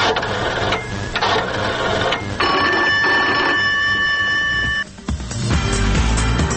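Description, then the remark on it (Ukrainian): An old-fashioned telephone bell rings loudly, a continuous rattling metallic jangle that breaks off briefly near the end before starting up again. “Ми також привітаємо телефон, в якого сьогодні, як виявилося, день народження.”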